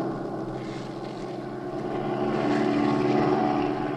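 A propeller airplane engine drones steadily in flight, a loud, continuous low hum with a faint throb that swells slightly toward the end, heard alone without voices, as the pilot swings over for a look at another plane below.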